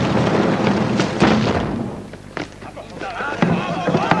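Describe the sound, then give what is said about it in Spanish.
Heavy booming thuds strike several times at an uneven pace as the Uruk-hai battering ram pounds the massive gate of the fortress at Helm, with shouting voices and a rumbling din beneath the blows. “En Helm, el ariete de los Uruk-hai llega a la puerta del fortín.”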